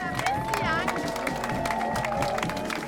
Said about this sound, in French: Merci. Il y a quelqu'un qui nous amène de l'eau qui se fait applaudir, un riverain.